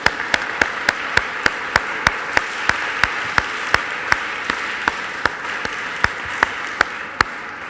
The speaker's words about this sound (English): Hurrah! Round of applause.